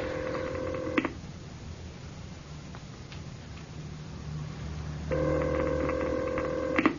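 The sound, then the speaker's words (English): A telephone call placed through an operator rings out over the line in two long buzzing bursts separated by a few seconds of low hum, with nobody picking up and no voices. “No answer, sir. Should I keep on ringing?”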